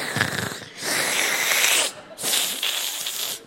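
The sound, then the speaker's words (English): A person imitates a sick 5-year-old daughter's labored, wheezy breathing: a short raspy breath, then two long, strained, hissing breaths with brief gaps between, fairly loud and noisy. “She's breathing like a really long bong hit.”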